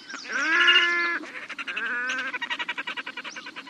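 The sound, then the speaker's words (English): A red-necked grebe gives loud, nasal, braying wails, then breaks into a rapid stuttering chatter of harsh pulses. No voices, just the bird calling on its own. “Well, these grebes are excellent divers and can swim underwater, coming up from below to attack other water birds.”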